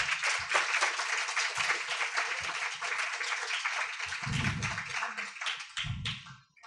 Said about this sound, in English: Can we have another round of applause for the great teachers?